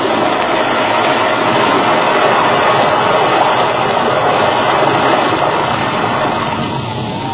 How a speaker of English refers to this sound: A strange, low, rumbling noise in a rising crescendo. A mountain of snow overhanging the road, dropping with an echoing roar.